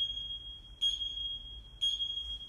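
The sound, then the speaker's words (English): A CrossFit gym timer clock at Ronan CrossFit sounds a shrill, high-pitched electronic tone that holds steady, swelling into two louder beeps about a second apart. No one speaks. “Real life CrossFit clock. That's the one that sets off the action in here.”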